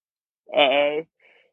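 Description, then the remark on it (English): A single drawn-out, voiced yawn by a person lasting about half a second, fairly loud, with a wavering tone, followed by a faint, breathy trailing exhale. “Apparently not, because you're yawning as fuck over there, so you're not gonna keep your mouth shut.”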